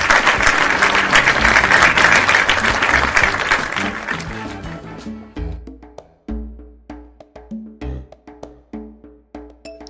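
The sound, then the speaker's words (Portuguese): A crowd breaks into loud, dense applause that swells, then thins out after a few seconds and gives way to a sparse, rhythmic musical passage with plucked-sounding notes. “Para toda essa galera, o nosso muito obrigada e vamos fazer aquele lindo, lindo, lindo aplauso coletivo.”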